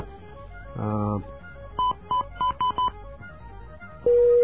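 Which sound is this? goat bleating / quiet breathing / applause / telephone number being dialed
telephone number being dialed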